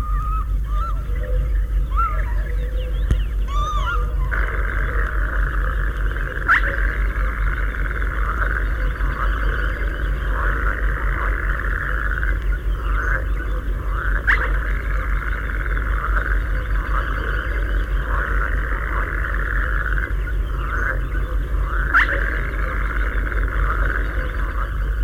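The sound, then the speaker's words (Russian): A dense, steady chorus of croaking frogs in a marsh fills the background, broken every few seconds by a short, sharp whistle of a spotted crake cutting through the din. “Среди кваканья лягушек отрывистый посвист.”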